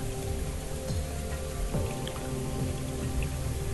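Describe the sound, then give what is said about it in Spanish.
Water pours down in a steady, continuous rush, like a waterfall, with a dense wash of splashing and patter that holds an even loudness throughout and no voices. “El agua cae y hace ese tranquilizante ruido de la cascada al caer.”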